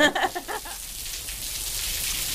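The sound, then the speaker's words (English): Steady rain hisses continuously, a broad high wash that fills the whole stretch after a brief, fading burst of something voiced at the very start, falling on a little square at the corner of Haggerston Road in Hackney, East London, at the All Saints Community Centre. “You can hear the rain falling down.”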